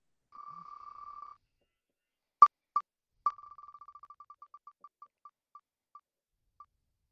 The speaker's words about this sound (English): We will first play Name That Novel Adaptation. So let's spin the wheel and see what you get.